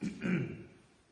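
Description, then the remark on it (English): A short throat clearing from a speaker battling allergies, one gruff burst that rises and then fades over about a second, heard alone without any talking. “I'm still battling a little bit of allergies, so y'all may hear me clear my throat a lot today.”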